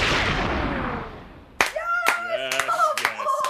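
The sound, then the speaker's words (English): A burst of clapping and applause in the Like a Version studio on Triple J Breakfast, the performers joining in their own applause, gradually dying away over about a second and a half, followed by sharp, lively voices cutting in with whoops and chatter. “And as they should, they're contributing to their own applause.”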